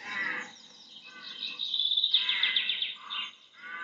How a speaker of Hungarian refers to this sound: Ez a vetési varjúnak a hangja, és ilyen az, amikor az egész vetési varjú csapat útra kell.